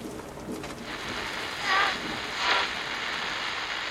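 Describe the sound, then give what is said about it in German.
A steady, dense hiss of heavy rain pours down without pause, swelling briefly louder twice as gusts push the downpour harder, with no voices present. “Aus dem Cumulonimbus fallen häufig heftige Niederschläge in Form von Regenschauern, Schneeschauern, Hagelschauern und Graupelschauern.”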